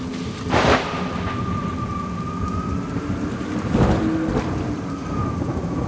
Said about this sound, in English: Suddenly, there was a storm. First, there was thunder and lightning. Then there was a strong wind and it started to rain.